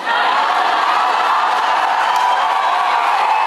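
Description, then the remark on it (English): A large crowd cheers and shouts continuously at a rally, a loud, steady roar of voices with scattered whoops that holds at full level throughout. “Crowd loves that.”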